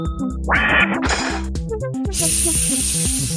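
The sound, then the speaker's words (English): A robot hisses in three bursts: two short sprays of noise, then a longer, brighter, sustained hiss, all over a steady, rhythmic low electronic buzzing. No one speaks. “The robot started to hiss, a slim mechanical tongue slipping out from its mouth.”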